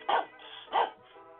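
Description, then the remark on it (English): Two sharp, loud dog barks about half a second apart, with a low background hum between them and no talking. “You know, you either go nuts with a dog like this, or it turns you into a better human being.”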